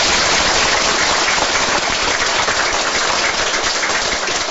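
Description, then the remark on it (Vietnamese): Steady, dense applause from a crowd, given as an offering to a Buddhist practice center, a loud continuous wash of many hands clapping at once with no single claps standing out, holding at an even level for several seconds with no voices. “Thôi mình cho cúng dường cho đạo tràng một tràng pháo tay.”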